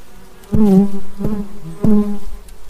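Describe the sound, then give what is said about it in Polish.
Honeybees in a hive inside a vertical tree trunk buzz in a steady, low, droning hum with wavering pitch as the hive is opened and smoked with a bee smoker, loud and without any voices, broken by three sharp clicking knocks spaced roughly evenly apart. “Generalnie zadymianie pszczołom akurat nie szkodzi.”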